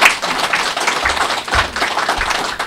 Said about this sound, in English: Give these men a round of applause.